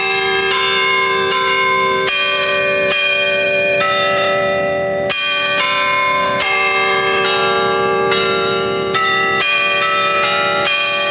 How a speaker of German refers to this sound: Eine erste Antwort auf die Sprengung der Garnisonkirche durch die SED war eine Spendensammlung noch vor der Wende im westfälischen Iserlohn. Mit dem Geld wurden die Glocken der Garnisonkirche nachgegossen und 1991 der Stadt Potsdam übergeben.